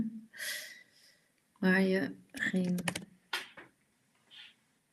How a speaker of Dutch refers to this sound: Zo, typen is echt ineens heel lastig als je live bent.